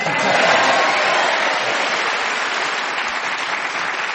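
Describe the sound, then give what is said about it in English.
A crowd applauds steadily, many hands clapping in a dense, continuous wash that stays fairly loud throughout and tapers only slightly toward the end. “I don't know whether clapping my appearance at the Windmill Theatre or the fact that you were speaking as the whistle went”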